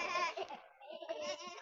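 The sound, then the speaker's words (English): Several children's voices imitate sheep as they follow a shepherd, giving two wavering, bleating baa sounds, one long cry followed by a shorter burst, with a hint of giggly laughter mixed in. “Yeah, you can bay a little bit. Let's hear you.”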